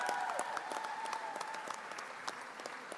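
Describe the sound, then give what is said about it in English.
An audience at the Pierce Arrow Museum in Buffalo applauds the evening's host steadily, dense overlapping claps forming a continuous wash of sound with a few sharper individual claps standing out, sustained for the full stretch without talking. “Let's hear it for”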